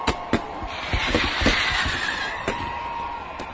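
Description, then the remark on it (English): Fizzing fireworks at a party hiss and crackle steadily, punctuated by a few sharp pops and snaps at irregular intervals, moderately loud with no voices. “There was singing and dancing, cake and ice cream, and fantastic fizzing fireworks.”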